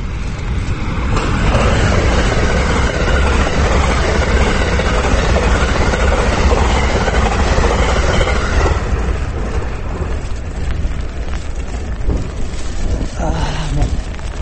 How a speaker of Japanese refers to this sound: 例によって例のごとくまた電車が通ります。